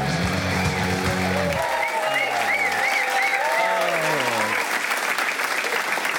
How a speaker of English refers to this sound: What a lovely round of applause.